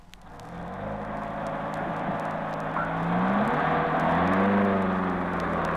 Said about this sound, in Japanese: さあ、楽しい旅行に出発いたしましょう。エンジンの音も快調です。